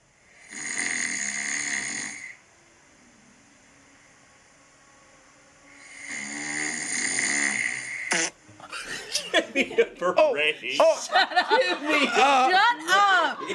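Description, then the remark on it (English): Two long, raspy, loud snores from a sleeping person a few seconds apart, followed by people bursting into laughter and chatter. “And I'm so embarrassed by this, but this is me snoring caught in the moment here.”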